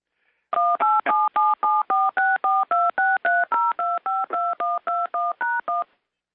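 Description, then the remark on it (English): A rapid, even run of about twenty touch-tone keypad beeps, each a short dual-pitched tone with varying pitch pairs, fairly loud and steady in rhythm with no voices: somebody's cat dialing in on a phone during a meeting's roll-call vote. “And I wasn't dialing in. But somebody's cat was. Dialing in multiple”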